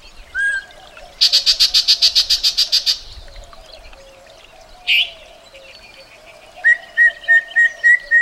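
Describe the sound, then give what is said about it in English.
A yellow-breasted chat sings from streamside willow thickets in a canyon in summer, a jumbled, varied song: a rapid dry chatter, a single sharp swooping call, then a string of clear repeated whistles, loud, with no talking. “You've just spotted a yellow-breasted chat.”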